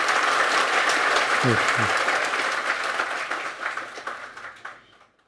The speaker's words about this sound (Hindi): मुझे थोड़ी सी ताली बजाओ मेरे लिए।